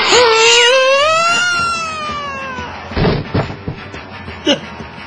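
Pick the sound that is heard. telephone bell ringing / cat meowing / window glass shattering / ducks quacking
cat meowing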